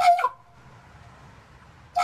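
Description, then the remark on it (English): A raven lets out a loud, harsh bark-like call, then a quiet pause, then a second call cut off at the end, like a bird imitating a dog's bark. “There's one YouTube clip that captured a raven making all sorts of noises, from a dog bark to a car alarm.”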